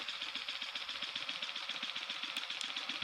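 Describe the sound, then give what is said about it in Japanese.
A piston vibrator runs: its small motor whirs steadily with a bright, buzzy hiss, while a low rhythmic thumping pulses several times per second as the piston moves back and forth. No voices. “いや、それはピストンバイブだからピストンするけど。”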